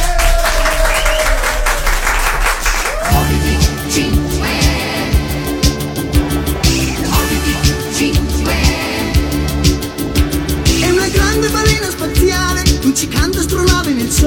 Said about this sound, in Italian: Un applauso!